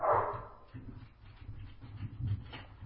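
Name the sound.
dog barking excitedly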